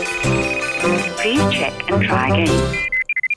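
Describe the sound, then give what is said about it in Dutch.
A dense burst of music and voices gives way to a telephone ringing on an outgoing call to the United States: a quick run of short, clear electronic tone pulses near the end, fairly loud. “Ja, en de telefoon gaat over in de Verenigde Staten”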